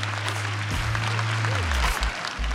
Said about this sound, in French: C'est au bord de l'océan, sous une tente voilée ornée d'orchidées blanches, qu'ils échangent leurs vœux sous les applaudissements de leurs proches.